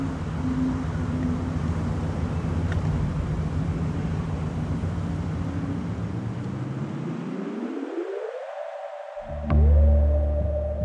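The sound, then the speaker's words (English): A wind harp hums with layered, sustained drone tones, steady and eerie. Near the end the pitch bends upward, cuts out briefly, then returns with a louder, deeper resonance. No voices. “So this week's winner is the listener who brought us to the wind harp in the first place and so kindly toured us around.”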